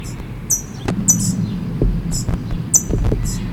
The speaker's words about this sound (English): Parent is up in the tree chipping.